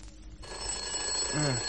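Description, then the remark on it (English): A telephone bell rings continuously, a loud, steady metallic jangle with bright sustained overtones, starting abruptly after a brief quiet moment; a short low vocal sound rises briefly near the end. “I keep hearing bells.”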